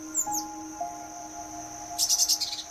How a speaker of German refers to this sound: Plötzlich hörst du ein wunderschönes Gezwitscher.